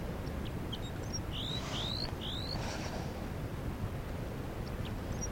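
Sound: crossbill alarm calls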